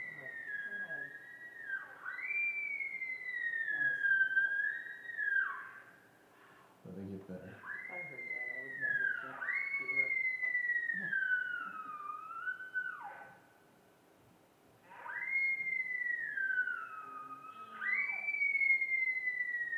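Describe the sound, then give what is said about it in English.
Elk bugling: a series of loud, high, squealing whistled calls that rise and slide down in pitch, repeating in clusters, with a brief stretch of speech and low grunts partway through; heard outside a bedroom window in Texas over Christmas. “So these are, the first ones are kind of chirpy, and then they get kind of intense with these elk kind of vocalizations.”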